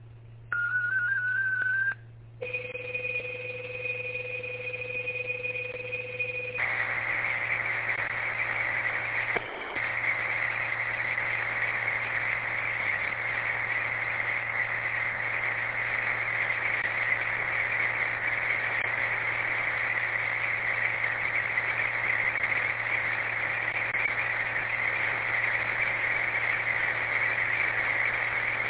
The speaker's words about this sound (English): Stand by for some digital traffic. It's kind of a brief recap of what I just said. If you have your tablets ready, this one's going to be 31 seconds. This is KGTC.